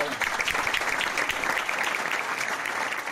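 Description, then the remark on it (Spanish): Steady applause at an extraordinary city council plenary session in Lugo, after Miguel Fernández Méndez is named the new mayor: a dense wash of overlapping claps that stays loud and even for the whole three seconds, with no voices standing out. “Tras los aplausos prometía su nuevo cargo el ya alcalde Miguel Fernández.”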